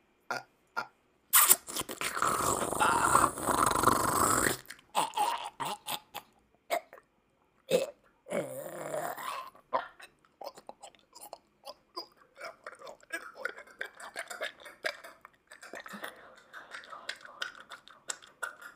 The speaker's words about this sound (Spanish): Es beso, no lavado bucal.